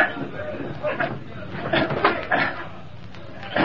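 A wooden window high up, its pane already broken, is pushed upward, giving a series of scraping, rattling slides and bumps spread over a few seconds, moderately loud.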